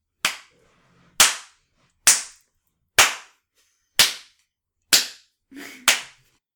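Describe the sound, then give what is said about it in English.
A slow clap: seven loud, sharp claps spaced about a second apart in a steady, deliberate rhythm, each one ringing off briefly before the next, with no voices. “Otabek's slow clap intensifies.”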